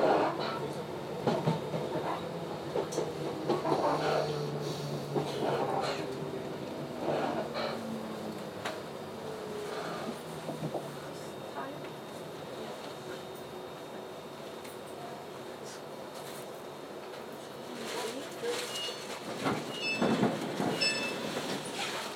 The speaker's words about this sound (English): We are now approaching Dumbarton Central. Change here for stations to Bowie. Please mind the gap when alighting from this train.